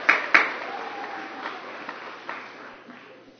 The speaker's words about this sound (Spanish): Pueden dar un mejor aplauso, demuestren que les aprecian.